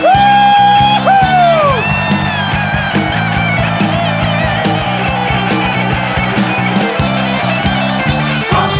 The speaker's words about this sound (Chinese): 让我们将我们的掌声欢呼归给我们的主，哈利路亚。